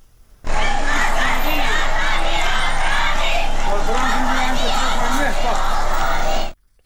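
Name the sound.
students chanting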